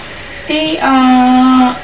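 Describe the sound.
A single loud two-part bray, a short high 'hee' then a long sustained 'haw', sounding like a human voice imitating a donkey.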